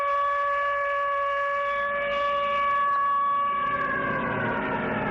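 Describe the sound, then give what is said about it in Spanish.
An air-raid siren, an anti-aircraft alarm warning of possible bombings as heard during the civil war, wails steadily, a loud sustained tone with stacked harmonics that holds level and then dips slightly in pitch toward the end, with a low rumble underneath and no voices. “Imagínate lo que es escuchar este sonido de alarma antiaérea de posibles bombardeos estando en la guerra civil.”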